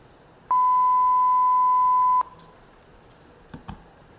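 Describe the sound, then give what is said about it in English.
A single loud, steady telephone signaling tone, sent over a voice over IP call to a real public telephone number in a simulation built on a modified Asterisk PBX, holds at one mid-high pitch for just under two seconds, then cuts off, followed by a couple of faint clicks against quiet line hiss. “Yeah, I think the damage was done by the time they realized that the tones themselves, the frequencies, had been”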